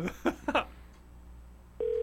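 A few short clicks or beeps, like keys being pressed, then a steady phone ringing tone comes in near the end, loud and continuous, heard through a phone line.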